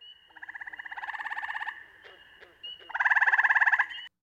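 A tree frog heard at a nature trail stop calls in two long, rapid pulsed trills, each a buzzy, rattling series of clicks, fairly loud, with a short quieter gap between them.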